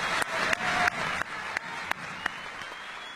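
An audience at a Humboldt High School student recognition applauds steadily, a dense wash of many hands clapping, with a few louder individual claps cutting through at a regular beat. No one speaks over it.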